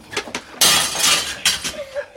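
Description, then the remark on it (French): A window pane is smashed by Azelma with a sharp, bright crash, followed by a spray of tinkling shards and a second, smaller impact, after a couple of light taps beforehand. “Azelma, vite! Casse un carreau!”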